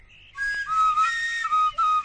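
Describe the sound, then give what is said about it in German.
A flute is played badly: a breathy, wavering tone around one pitch with shrill overtones, wobbling and breaking off in short uneven bursts over about two seconds, with no talking. “Oje. Klingt nicht sehr schön, glaube ich.”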